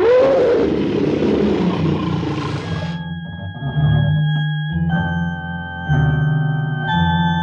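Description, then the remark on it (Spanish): A loud, harsh tiger roar bursts out for about three seconds as the tiger leaps to attack a man, then gives way to sustained, droning tones that swell and pause several times, with no talking. “De pronto, el tigre se lanza contra Calimán.”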